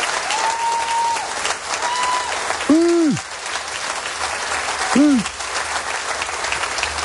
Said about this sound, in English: There's a lot of cheering, and Andy Burnham's about to speak.